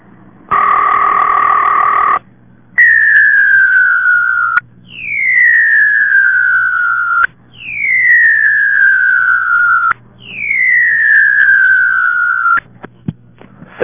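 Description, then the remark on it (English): A steady telephone dial tone cuts off and gives way to a loud, repeating warning tone, four descending electronic sweeps in a row, after the dial tone is held too long without dialing. No voices. “If I hold the dial tone on too long, I get this.”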